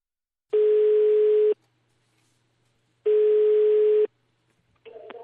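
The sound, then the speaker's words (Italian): A telephone ringback tone, for a call placed from Radio 1 to a home in Naples, Italy, sounds twice, each a steady one-second buzz-like tone separated by a pause, before a faint voice briefly picks up at the very end. “Proviamo a fare questa chiamata.”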